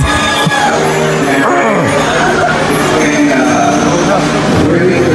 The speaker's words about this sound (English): Listen, the crowd's gonna go nuts. Listen to that fan reaction.